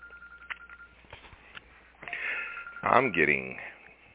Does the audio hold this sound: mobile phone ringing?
yes